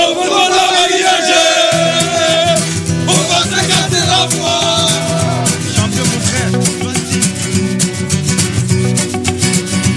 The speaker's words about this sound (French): les supporters parisiens qui avaient fait le déplacement ont chanté à en perdre la voix hier, sans perdre de vue l'objectif de décrocher dans 2 semaines un 2e titre européen consécutif.